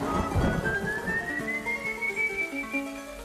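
An eerie, ghostly whistle, the characteristic whistle of a specter from a Venezuelan legend, glides slowly upward in pitch in one long, sustained tone, hanging over a low, murky background rumble with no voices.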